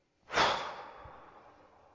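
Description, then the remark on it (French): A single long, forceful exhale through the mouth, breathy, starting with a strong rush of air and gradually fading away over more than a second, released after briefly holding the breath with both hands above the head during a relaxation breathing exercise. No talking. “Et on lâche prise en soufflant.”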